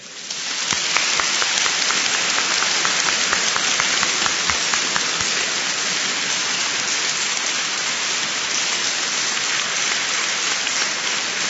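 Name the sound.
audience applauding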